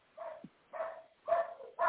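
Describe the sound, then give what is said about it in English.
Dogs barking outside in a steady run of four sharp, tonal woofs, evenly spaced, with a slightly muffled, thin quality and no voices; the dogs are going at a neighbor walking by in his part of a fenced-in yard. “I got to go walk outside and go smack my dogs because they're attacking the neighbor.”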